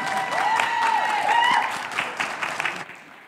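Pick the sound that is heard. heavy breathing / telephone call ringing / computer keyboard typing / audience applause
audience applause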